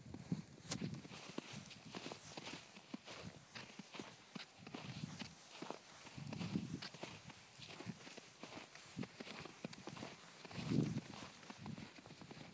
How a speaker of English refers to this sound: sound of a dog and his master on snow.